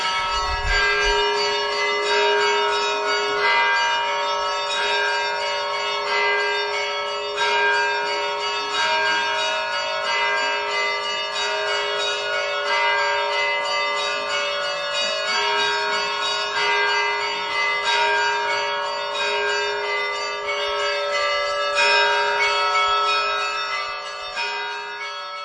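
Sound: festive church bell ringing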